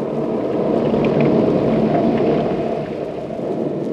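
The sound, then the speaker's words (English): A heavy storm roars steadily outside the house of Egyptologist Emery Lockmore, a deep continuous rumble of thunder and wind filling the whole stretch, loud, easing slightly near the end with no voices. “A storm rages outside the house of Emery Lockmore, the celebrated Egyptologist and authority on rare Oriental treasures.”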